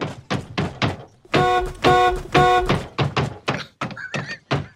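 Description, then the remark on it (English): A car is beaten in a film scene: repeated heavy thunks of blows striking the car body, an irregular barrage of impacts broken up by three loud, sustained blasts of a car horn, with no one speaking. “But anyway, here's the best car beating on Film Sack history.”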